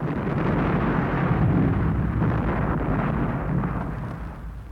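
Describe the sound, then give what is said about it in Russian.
A loud, deep explosion of a gasoline-soaked sack, set off by a flaming torch thrown into it, erupts into a sustained roaring blast that rumbles heavily for several seconds before slowly easing, with no voices present. “Пылающий факел, изогнувшись дугой, пролетел, как комета в ночи, и попал прямо в середину пропитанного газолином мешка.”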